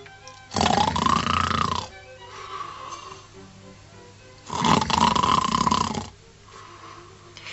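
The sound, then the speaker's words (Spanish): Two long, loud, rasping snores of a wolf taking a nap, each lasting over a second with a quiet pause between them, deep and growly. “Desde aquí se le oye roncar. Debe estar echando la siesta.”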